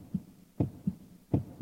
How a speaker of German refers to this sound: Mein Herz fing an, laut zu pochen.